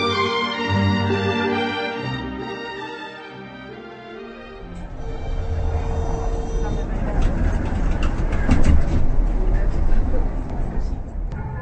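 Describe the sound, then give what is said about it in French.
A Prague city tram rolling past in the Czech capital: a steady electric whine at first, then a loud, rumbling wash of wheels and motor noise that builds and holds to the end. “Ce bruit est familier aux millions de Pragois qui, chaque jour, prennent le tramway pour se déplacer dans la capitale.”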